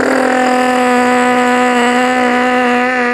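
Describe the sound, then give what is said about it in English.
A voice makes a steady, unbroken buzzing drone for about three seconds, loud, imitating the continuous roar of a minigun fed with BBs, unloading into a Nuketown window. “Somebody's over there with a minigun.”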